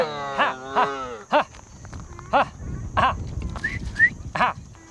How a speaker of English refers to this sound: herds his scrawny-looking sheep and goats in search of fresh foliage. His legs stride out across the sun-baked ground.